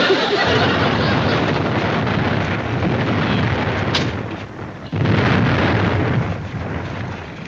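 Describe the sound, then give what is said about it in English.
A loud, continuous barrage of firecracker blasts booms and crackles like a bombing raid, dense and rumbling, with a brief lull partway through before the explosions resume. “Any more firecrackers, Carter?”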